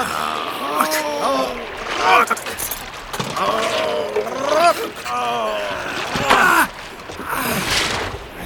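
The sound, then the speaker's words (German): Water splashing and sloshing in irregular bursts as a helmeted diver is pulled out of the water, heard beneath several excited, overlapping voices talking urgently throughout. “wir müssen deinen Vater auffischen.”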